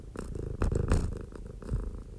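cat purring

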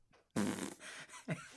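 fart sound effect

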